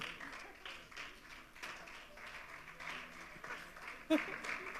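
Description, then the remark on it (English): A crowd claps steadily for several seconds as a speaker takes the stage for a talk, a dense, continuous patter of many hands that swells slightly toward the end. “Your stage and your applause.”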